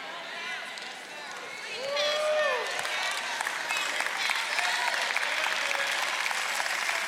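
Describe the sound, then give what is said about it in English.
Steady applause from a large audience fills the First Baptist Church of Glen Arden, swelling after a moment into dense, continuous clapping with scattered voices and a few raised shouts mixed in. “Look at the people clapping, look at the people not clapping.”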